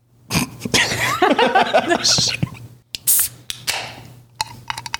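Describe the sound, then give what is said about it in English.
A can of Four Loco pops open with a sharp metallic crack and a brief bright fizz, followed by a few soft clicks and handling taps, with murmured voices before it. “Are you ready for a crisp crack of Four Loco?”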